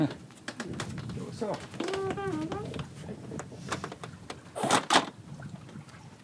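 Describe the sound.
A sauna door swings shut near the end with a short, solid thud and rattle. Before it, cooing pigeons and some voices fill the background.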